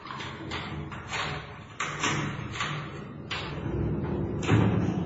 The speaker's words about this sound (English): especially when the policeman stopped outside one of the doors and unlocked it.